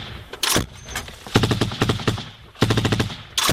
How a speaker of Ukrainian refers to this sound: Він повідомляє командуванню про те, що їх обстрілює снайпер і береться разом із солдатами відслідковувати противника.